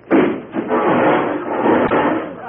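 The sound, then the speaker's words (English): A loud crash of wood splintering and breaking apart as a sheriff without his glasses walks through a wooden wall, thinking there was a door there, a dense clattering rumble lasting a couple of seconds with a sharp crack near the end. No voices. “Doggone it, I thought there was a door there.”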